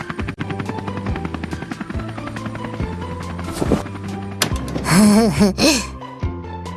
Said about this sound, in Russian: Смотрите, в небе вертолет с грузом.